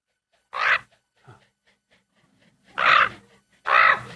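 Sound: ravens calling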